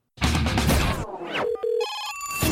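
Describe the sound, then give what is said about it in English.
A loud, noisy clatter gives way to a telephone ringing in the Metal Mayhem ROC radio studio, a call from San Diego: steady electronic tones, first a lower held note, then a brighter, higher ring, with no one talking. “And I think I see the phone ringing.”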